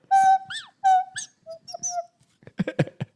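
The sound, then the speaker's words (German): A breathy, reedy nose whistle, held against the nose above the mouth, plays several short wavering notes with pitch slides, followed by a brief burst of unclear vocal sounds near the end. “Das heißt, es ist eine Pfeife. Das hält man sich an die Nase und unter den Mund”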